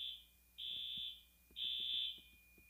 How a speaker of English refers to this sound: The smoke alarm goes off at 2 a.m., 3 a.m. This happens a couple of times a week.